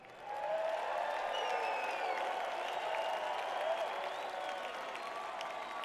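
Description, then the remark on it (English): A concert audience breaks into sustained applause for itself, a dense wash of clapping that swells quickly and holds steady, with faint whoops and cheers rising over it. “Give yourselves a hand.”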